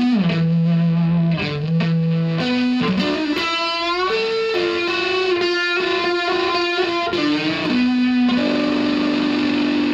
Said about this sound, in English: It says you can get a clean volume boost by increasing the level control. Increasing the drive will give you a thick distortion sound with a little bit of edge to it.